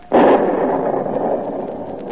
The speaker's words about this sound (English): 1776. Shots heard round the world. The boom of the cannon of independence echoes and re-echoes in every hamlet in pioneer America, every capital of Europe. All over the world, the call to arms is heard.